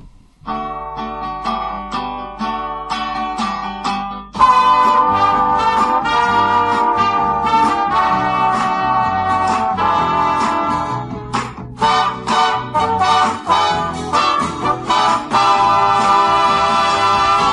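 A 1969 Spanish-language pop song plays loud and clear, opening with a sparse, rhythmic instrumental intro before the full band kicks in a few seconds later with a steady, bouncy beat.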